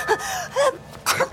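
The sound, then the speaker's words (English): A sneeze in a cold room kept at 60 degrees, preceded by breathy, rising gasps: two short voiced intakes, then a sharp, noisy burst of air at the end, fairly loud with no talking. “Bless you.”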